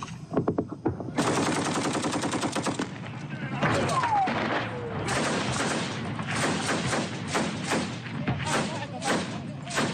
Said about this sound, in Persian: ویدیوی غیرحرفه‌ای شبه نظامیان وفادار به حکومت عراق را روز سه‌شنبه در حال تبادله آتش با گروه دولت اسلامی در نزدیکی رمادی به نمایش گذاشت